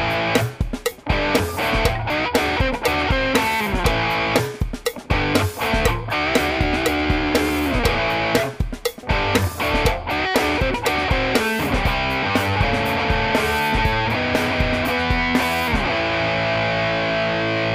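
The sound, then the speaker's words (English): A distorted electric guitar, its distortion cranked up, plays chunky rhythm chords for rhythm tracks, loud, with short choppy gaps between strummed phrases and a steady driving pulse throughout. “And so what we're going to do here, we're going to write down some rhythm tracks with it, and then we're going to go through it and do some Top Boost leads over the top.”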